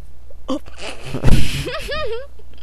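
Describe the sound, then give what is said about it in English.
A person yawns: a long breathy inhale swells into a loud rush of air, then trails off in a wavering, voiced moan that rises and falls in pitch before fading. “I was in the middle of yawn there, man.”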